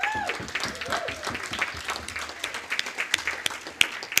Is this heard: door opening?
no